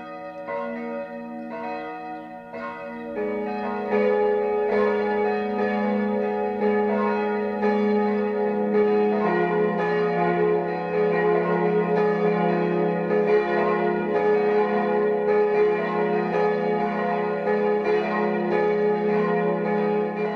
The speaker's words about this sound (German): Es ist 12 Uhr. Das Mittagsläuten kommt heute aus Frauenried in Oberbayern.